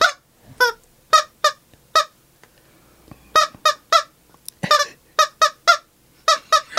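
A squeezed rubber toy chicken honks over and over in loud, harmonic squawks, some in quick pairs and clusters with short gaps between, with no talking.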